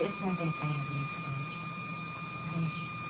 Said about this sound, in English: that light has a whistle on it. I notice that sometimes, too. I can actually hear that light. It's a fluorescent light